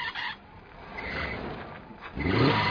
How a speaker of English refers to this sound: So your car won't start, or when it does, it sounds like it's about ready for liftoff. You have problems.